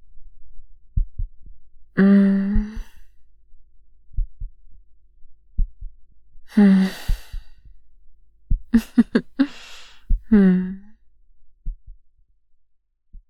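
A person's slow, steady heartbeat thumps low, heard as if through a chest while someone lies on top of them listening, while heavy breaths and voiced sighs rise over it at intervals.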